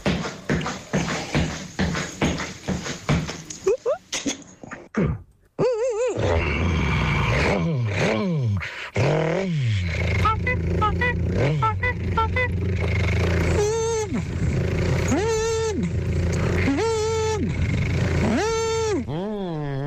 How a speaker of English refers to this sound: So from walking out down the driveway, opening the car, getting in, testing everything and then driving away. Have a listen to this, lads.